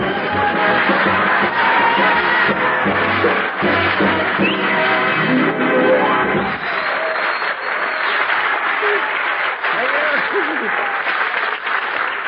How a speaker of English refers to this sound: I wonder what would happen some night if we didn't tell you to applaud when we told you to.